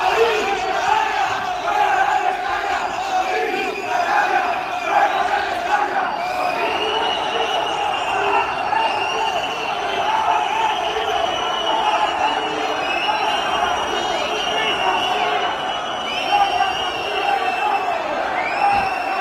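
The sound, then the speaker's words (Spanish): A large crowd shouts and chants continuously outside the Mestalla stadium during a shareholders' meeting, a dense roar of many voices with rising yells and whoops layered on top, staying loud and steady throughout without any pauses. “Bueno, la respuesta ante esos gritos de Lin Canalla fuera de Mestalla ha sido que han empezado a recoger las cosas y han dicho hasta aquí la junta de accionistas.”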